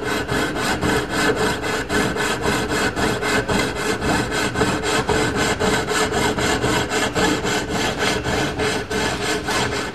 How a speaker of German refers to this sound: Die Säge? Da reißen zwar ständig die Sägeblätter, aber man kann so viele tolle Sachen mit der Säge machen.